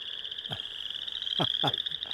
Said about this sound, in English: You know, I love to hear the chorus frogs. Mm-hmm. That's always... Oh, there we go.